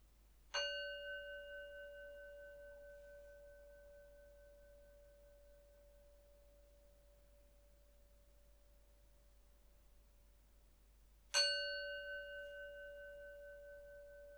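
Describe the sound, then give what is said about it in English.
A meditation bell is struck twice, about ten seconds apart, at the start of a guided meditation, each ring bright and clear and fading slowly into a long, steady hum. There is no talking. “I'm going to start with three sounds of the bell, and I'll do the usual settling in introduction.”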